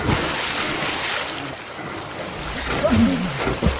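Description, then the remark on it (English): A motorboat speeds through water with a steady, loud rushing roar of spray and churn throughout, joined near the end by brief warbling, voice-like sounds over the noise. “Let's see if your boat's got any fucking horsepower, fuckers.”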